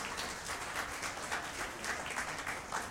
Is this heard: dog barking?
no